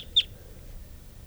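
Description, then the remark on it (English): Birds numbered 395 and 387 calling: a single short, high chirp rings out near the start, with a fainter peep just before it, over a steady low rumble and no talking. “395 and 387 calling here.”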